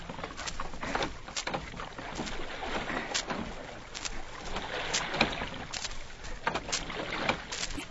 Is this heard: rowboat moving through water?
yes